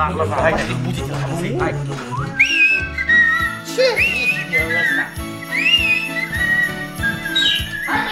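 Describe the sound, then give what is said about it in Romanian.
A bright, clear whistled tune, whistled while walking off, rises and falls in short melodic phrases, carried over a steady, rhythmic low accompaniment, with murmuring voices in the first few seconds. “Plecăm cu cântec sau cu fluierat?”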